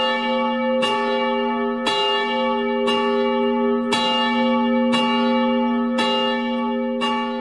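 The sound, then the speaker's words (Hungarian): A church bell tolls repeatedly at a steady pace, each loud clang blending into a long, shimmering ring that never fully fades before the next strike. No voices are heard. “A középső harang amúgy 420 kg-os volt.”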